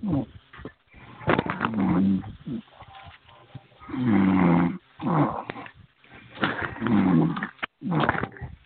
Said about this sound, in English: I'm sorry, I'm not sure if somebody is breathing in the phone, but it's hard to hear. It's very hard to hear. If you wouldn't mind muting your phone, please. Hello? Somebody breathing in the phone?